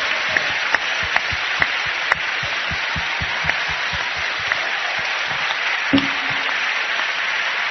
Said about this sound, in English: Says, clap your hands. Klaszcie swoje dłonie. And make a joyful noise. I czyńcie radosny hałas, radosny dźwięk.